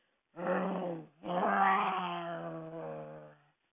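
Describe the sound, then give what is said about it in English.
A voice imitates the growl of Old Bear, a bear in a story, as the menorah candles are lit: a short grumbling growl, a brief pause, then a longer rumbling one that slowly fades, fairly loud with no other talk. “Old Bear muttered and growled.”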